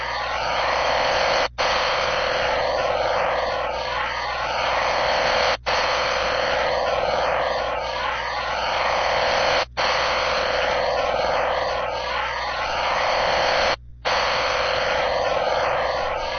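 A VOS 3 aircraft engine running on the flight line, played back at quarter speed, drones as a steady, heavy roar with wavering, warbling tones sweeping up and down, broken by brief silent gaps every few seconds.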